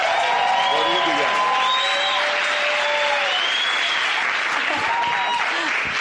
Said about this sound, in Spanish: De panaderos a esmeraldas, por favor ayúdenmelos a recibir con un gran aplauso.